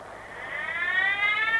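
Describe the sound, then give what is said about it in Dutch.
A police motorcycle siren wails with a steady, slowly rising tone, growing a little louder as it approaches while motorcycle police signal a driver to stop. No one speaks over it. “Ach nee, dat is de brandweer niet. Het is motorpolitie.”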